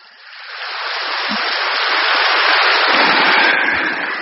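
A crowd applauds in a steady, dense patter of many hands clapping, building slightly in loudness and holding strong for several seconds with no voices over it.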